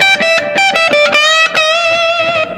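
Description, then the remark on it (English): A loud electric guitar played through a Ghost Echo reverb pedal, with repeated picked attacks over a sustained, ringing note that blurs into a washy, lingering tail. No one speaks. “So if you're hearing reverb, that's all from the Ghost Echo.”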